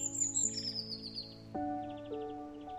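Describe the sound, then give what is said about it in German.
A blue tit perched on a branch chirps, quick high tweets and short trills over a soft sustained musical drone, with a brighter burst of calls partway through. “Die magische Blaumeise setzt sich auf einen Ast direkt über dir.”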